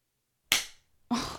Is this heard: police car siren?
no